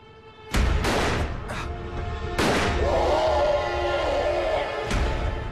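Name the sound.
gunshot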